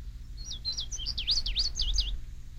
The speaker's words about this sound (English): For example, the one you are hearing now is the indigo bunting, a summertime visitor to Indian Springs.